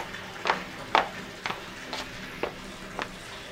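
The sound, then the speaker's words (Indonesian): Water heating toward a boil in a pot on a stove, with six soft, evenly spaced bubbling pops about twice a second over a faint steady hum. Quiet, with no voices. “Memangnya berapa lama, Bu, untuk merebus air sampai mendidih?”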